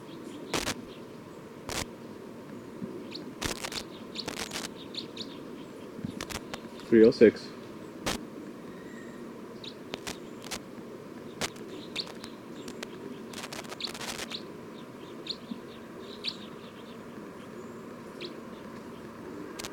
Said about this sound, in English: Stop. Recording, this is bird 306.